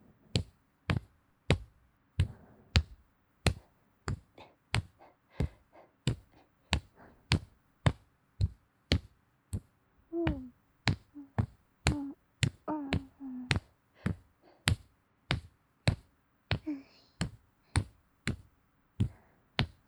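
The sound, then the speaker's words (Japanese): Steady, evenly paced tapping on shoulders as a massage, about two soft percussive taps per second, continuing for the whole stretch with a few faint tonal murmurs in between. “トントントントンって肩を叩く気持ちいい音。”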